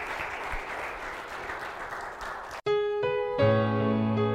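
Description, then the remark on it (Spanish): A church audience applauds the King of Kings in a steady, dense wash of clapping for a couple of seconds, then it cuts off abruptly and sustained keyboard chords take over. “Un buen aplauso al Rey de Reyes, señores, señores.”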